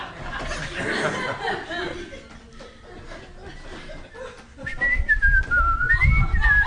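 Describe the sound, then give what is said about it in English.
Lively chatter and chuckling from a church crowd, then the group whistling together in the last couple of seconds, a wavering tune rising and falling over the noise. “Church is where we whistle together.”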